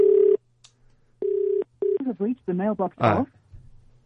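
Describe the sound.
A telephone number being dialed on a phone keypad: three clear keypad beeps of uneven length, fairly loud, followed by a brief stretch of muffled voice-like sounds.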